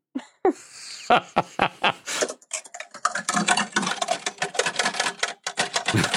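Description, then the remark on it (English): Clacking of an old manual ribbon typewriter: a few scattered, sharp key strikes at first, then a quick, steady run of loud mechanical keystrokes until the end. “Can you type on it a little bit just so we can hear it?”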